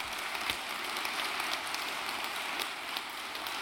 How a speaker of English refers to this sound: I think that's something to celebrate, don't you? Amen. Give the Lord a clap offering today.